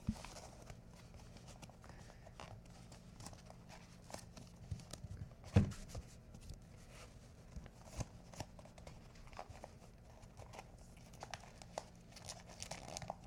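Paper crinkles and crumples up close in a steady stream of small crackling rustles, with one sharper crunch partway through and no voices.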